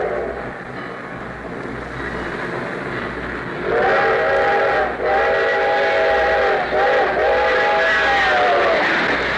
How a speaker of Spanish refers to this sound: Crucemos aquí los rieles. Pero espera. Allá viene el tren. Dejemos lo que pase.